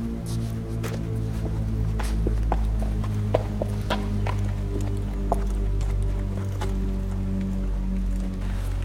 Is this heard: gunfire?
no